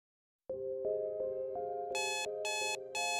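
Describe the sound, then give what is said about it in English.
An alarm clock rings with a steady, rapidly repeating electronic tone, then loud, shrill high-pitched bursts join in, with no voices. “Your alarm clock sirens.”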